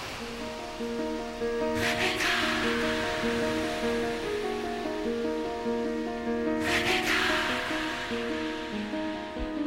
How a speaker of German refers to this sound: Das Rauschen der Brandung. Hören Sie das? Das Meer ruft Ihren Namen.